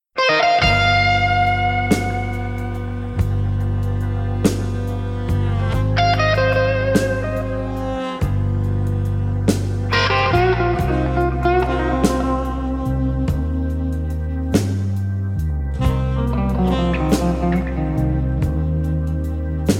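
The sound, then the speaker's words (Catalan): A loud, steady blues rock passage without vocals, a version played by a guitarist from Belfast: a distorted electric guitar plays sustained, bending lines over a deep bass and regular drum hits. “Comencem escoltant, doncs, aquesta versió del guitarrista de Belfast”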